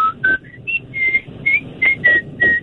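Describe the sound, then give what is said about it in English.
A man whistles a short, bouncy pop melody, clear, with about nine distinct notes in quick rhythmic phrases and no talking. “Oh, he just whistled … by ….”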